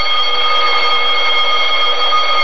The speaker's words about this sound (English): Just hold on. That's what this here alarm's for, you know. There's no one to hear.